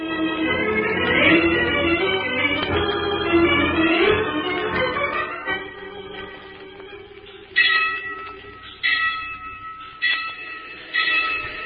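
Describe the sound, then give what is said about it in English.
A train rumbles and clatters with a droning, whining tone, then fades a little as a crossing bell clangs four times at a steady rhythm. No one speaks. “There's a train coming, Bates.”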